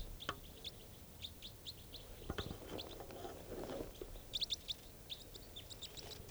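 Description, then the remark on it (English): A small flock of type 4 birds high in the trees gives many short, high chirping calls, scattered in quick irregular bursts throughout, with a brief low rustling thump partway through. Nobody speaks. “a small flock of type 4s has just arrived on the scene. And they're all high in the trees.”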